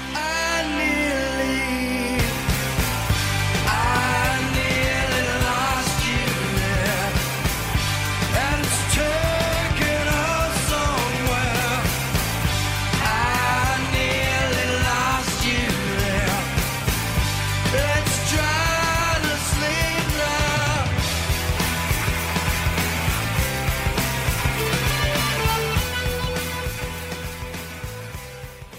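A grunge rock song plays loudly and steadily from start to finish, with a full band and dense, distorted guitars and drums that fade slightly at the very end.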